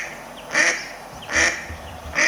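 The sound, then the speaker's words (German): A mallard duck quacks three times in a steady rhythm, each call a short, nasal, raspy burst, fairly loud, with no talking over it. “Aber die quaken genau wie die Stockenten.”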